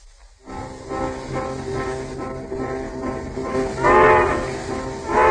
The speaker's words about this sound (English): We now find her on the world's fastest westbound train, rapidly approaching the capital of filmdom.